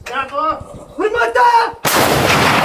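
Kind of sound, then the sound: impact, artillery cannon firing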